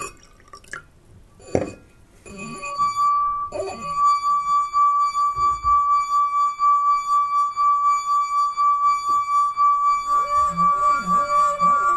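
A few light clinks and drips, then a glass starts to ring with a clear, sustained pure tone that holds steady to the end, pulsing gently as it sings.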